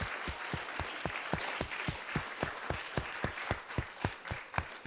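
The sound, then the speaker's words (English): An audience applauds steadily for LA Galaxy representatives, many hands clapping together in a dense wash with a few sharper individual claps standing out, sustained for several seconds. “Well, let's give one more round of applause for our wonderful LA Galaxy folks.”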